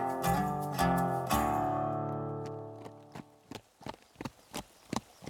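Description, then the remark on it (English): Horse hooves clip-clop in a steady, even rhythm as the horse Mean and Ugly is ridden north of town along an old horse trail through the buttes, coming in as a ringing musical chord fades away. No one speaks. “Prophet mounted Mean and Ugly and rode north of town, following an old horse trail through the buttes.”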